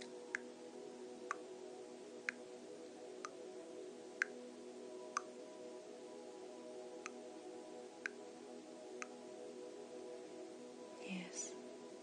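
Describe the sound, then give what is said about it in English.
A metronome ticks steadily, about one sharp click per second, over a low hum of background drone. A brief faint vocal sound appears near the end. “The metronome in there ticks at just the right speed.”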